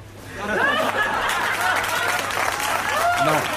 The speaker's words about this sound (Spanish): No, o sea, es que tengo risas más aplausos.